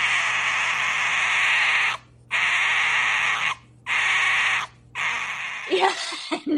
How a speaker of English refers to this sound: You very kindly sent us some video, and I think you would agree with me that the sound that the foxes make does not necessarily chime with what people would think of as a therapeutic sound.